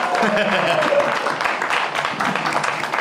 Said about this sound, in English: Everybody cheer to get him to come out on stage. It's like clapping your hands for Tinkerbell.